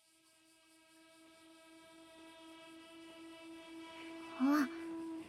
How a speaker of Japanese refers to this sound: 電車来ちゃいました。